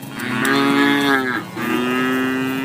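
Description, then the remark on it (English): Dairy cows of Missouri dairy farmers mooing: two long, loud, low-pitched moos, one right after the other with only a brief break, each sustained and droning steadily. No voices are heard. “Missouri dairy farmers, love issues, etc.”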